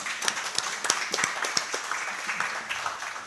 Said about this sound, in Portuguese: Salva de palmas.